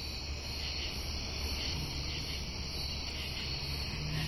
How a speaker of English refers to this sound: Sounds like my backyard. I'm hearing a bunch of ground crickets. The high pitch is there's Carolina ground crickets, Allard's ground crickets in there, and there's sort of a chirping, jumping bush cricket, really high pitch